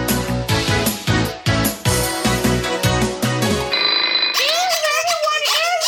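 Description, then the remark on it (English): A loud, melodic phone ringtone plays in quick rhythmic pulses, holds a sustained tone, then gives way to someone talking in a lively, wavering voice. “That's the Mexican death phone.”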